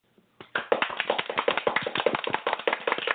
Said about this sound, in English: Let's give a hand clap, everybody. Clap on.